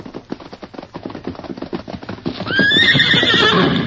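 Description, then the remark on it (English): Rapid hoofbeats clatter in a steady rhythm, growing louder, as Scout, the Lone Ranger's horse, comes when called, then lets out a loud, high, wavering whinny that carries to the end over the continuing hooves. “Good feller, Scout. You come closer. So me get saddle rope.”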